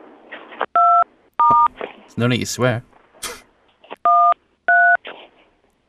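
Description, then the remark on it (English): Four loud phone keypad tones sound in two pairs, each a short steady electronic beep, from a call accidentally placed by a phone in someone's pocket, with a person speaking briefly in the gap between the pairs over faint background noise. “Every now and again, we get a phone call from somebody's phone that's in their pocket and they can't hear us, we can't hear them.”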